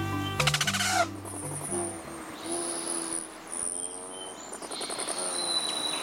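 Hummingbird wings, of rufous, ruby-throated and other hummingbirds migrating north, whir in a steady buzz, threaded with thin, high-pitched whining trills that rise and fall over several seconds, after a brief low tonal burst at the start.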